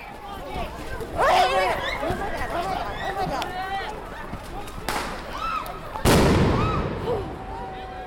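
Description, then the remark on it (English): Two sharp, loud bangs go off a second apart, the second bigger and ringing out, amid a noisy crowd of shouting voices, consistent with flashbang grenades exploding, amid tear gas after a police call to disperse, with the recordist running. “You'll hear me running first, and then you'll hear what I believe are flashbangs.”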